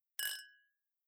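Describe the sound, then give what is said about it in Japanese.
A single bright glass clink of two wine glasses touched together in a toast over wine at Christmas, ringing with a short shimmering tail that fades within half a second. “はい、乾杯。”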